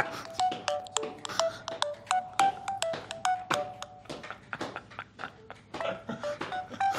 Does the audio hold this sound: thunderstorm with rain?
no